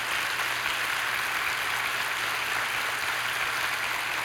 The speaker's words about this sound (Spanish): Hoy tenemos la enorme bendición de contar aquí entre nosotros con 52 hombres y mujeres que se van a bautizar. Pónganse de pie para que los aplaudan, que los vean.